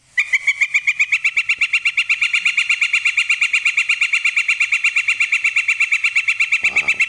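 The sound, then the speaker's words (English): A recording of a northern flicker, a ground-foraging woodpecker, giving a long, rapid series of loud wick calls that repeats steadily for the whole stretch, with a brief low thump near the end. “So it's this anteater woodpecker. So let me play that recording here. Really rapid, long wicks.”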